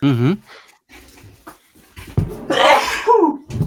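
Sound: sneeze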